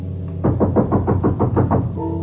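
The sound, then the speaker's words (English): Someone raps on a door about nine times in a quick, even series of firm knocks, with a steady low hum underneath and no voices. “Someone's at the door.”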